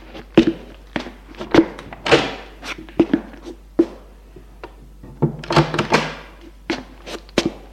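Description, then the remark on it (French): A long run of sharp, hollow thumps as someone knocks on the wooden door of an Empire-style guest bedroom in Lyon, struck in an uneven rhythm with brief pauses, some hits harder than others, and a faint creak partway through. “On frappe à sa porte.”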